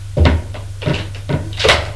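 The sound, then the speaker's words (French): A door is opened with a series of four short clunking, rattling bursts, evenly spaced over a couple of seconds, above a low steady hum. No one speaks. “La porte est ouverte, c'est lui.”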